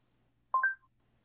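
A brief electronic phone tone as a phone call (not a WhatsApp call) is placed through a voice assistant: two quick beeps stepping up in pitch, clear, with quiet around them and no voices.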